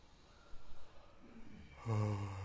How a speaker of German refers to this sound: Ein bisschen gähnen, stöhnen,